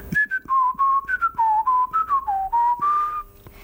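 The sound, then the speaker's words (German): A well-known ringtone melody, heard an estimated 1.8 billion times a day worldwide, whistled by a person: about a dozen short, clear notes in a bouncing, rising-and-falling tune, moderately loud and alone, ending on a longer held note. “Ein Klingelton.”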